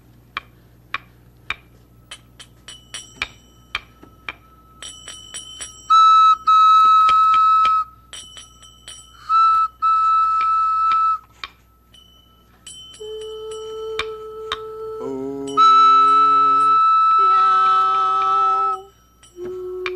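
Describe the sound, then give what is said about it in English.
A run of sharp ticking clicks gives way to a practice slide whistle holding bright, high notes in short bursts, then lower tones that step upward in pitch, fairly loud, with no talking. “And I've got my practice slide whistle.”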